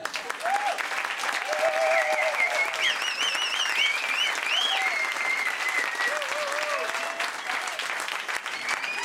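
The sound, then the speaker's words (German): An audience applauds steadily for several seconds, a dense wash of clapping with a few whistles and cheers rising above it, consistently loud throughout. “Applaus jetzt.”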